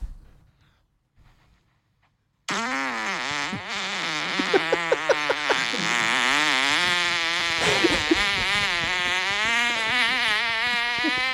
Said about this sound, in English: There's a legendary one. I think it was a good fucking 12 second fart.